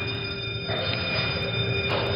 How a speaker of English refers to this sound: That's the warning bell. In 30 seconds, the high voltage will be turned on the oscillator. When that steady bell becomes intermittent, the world's most powerful cyclotron will be manufacturing 450 million volts of atomic force.